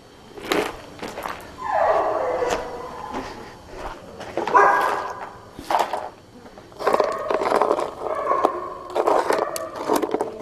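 Dogs bark and yip in repeated excited bursts, with some whining between the barks and a busy, scrabbling background; nobody speaks.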